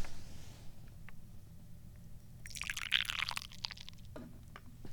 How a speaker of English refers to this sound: Anyway, so let's pour some more tea.